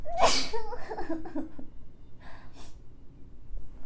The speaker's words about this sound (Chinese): 等一下，我打喷嚏。